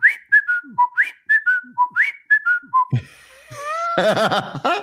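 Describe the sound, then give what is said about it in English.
A person whistles an imitation of a cockatiel call, rising then falling notes in a quick pattern, then breaks into laughter at the end. “I wouldn't mind having a cockatiel. I think that would be kind of fun. Cockatiels. Did you really? Yeah. No, I can still do the whistle.”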